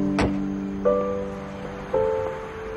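A car door shuts with one sharp, solid thump as the driver gets out at Willoughby Market at night, followed by two steady electronic tones a second apart over a soft background hiss.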